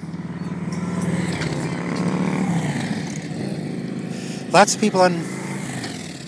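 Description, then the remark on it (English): A motorcycle engine rumbles steadily, its pitch shifting as it moves, then gives a few sharp, loud revs toward the end, with a faint murmur of people in the background, on a nice day at a place with lots of people riding motorcycles. “Lots of people on motorcycles here.”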